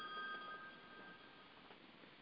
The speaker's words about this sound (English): Sorry, my telephone's ringing there and it's very distracting at the moment.